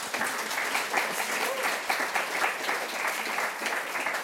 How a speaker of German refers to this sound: Können wir auch mal einen kleinen Applaus einlegen?